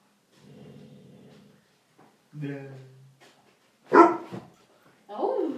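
A male dog vocalizes in short bursts: a low grumbling whine, then a drawn-out howling bark, a sharp loud bark, and finally a higher, sliding yip, with brief pauses between each.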